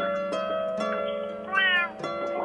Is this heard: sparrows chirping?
no